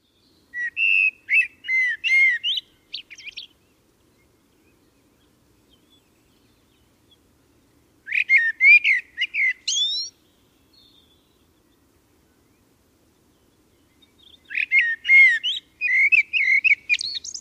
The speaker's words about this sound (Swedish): Han sjunger om att morgonen kommer om en stund. Gryningsfågel, tröstfågel för alla som vakar i smärtor. Nu ska ni få lyssna på en koltrast ungefär i 1 minut.